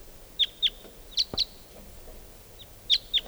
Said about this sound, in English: Both decoys are calling now. One of the wild birds must be coming in or calling.